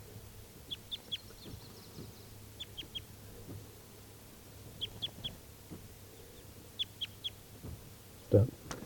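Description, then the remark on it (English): A bird numbered 391, still uncaught near a net, calls from nearby trees in short bursts of three or four high, thin chirps, repeated several times with pauses between, over a low steady hum and a soft thump near the end. “391 is still free, and he's calling in the trees nearby.”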